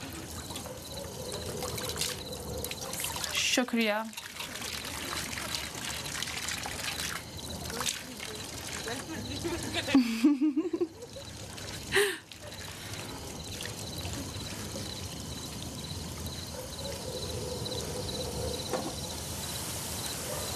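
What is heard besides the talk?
water being poured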